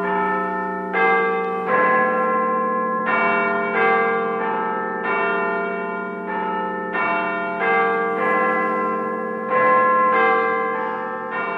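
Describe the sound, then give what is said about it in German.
The bells of the Big Ben clock tower in London ring out in a steady series of loud, resonant strokes about a second apart, each tone hanging and overlapping the next, with no voices. “Haben Sie es erkannt, die Glockenschläge? Es sind die vom Big Band in London.”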